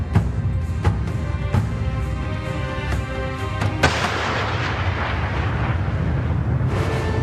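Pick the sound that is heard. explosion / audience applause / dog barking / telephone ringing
explosion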